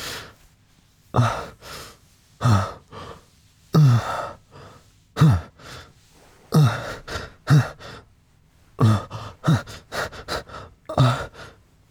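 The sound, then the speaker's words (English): A synthetic-sounding voice of a humanoid replica imitates human breathing: a steady series of about a dozen voiced gasps and exhales, evenly paced with short pauses between them and no speech. “I'm even programmed to replicate basic human functions, such as eating, sweating, and breathing, when it's required of me.”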